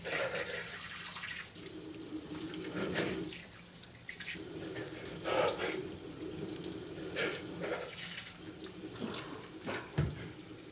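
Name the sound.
water running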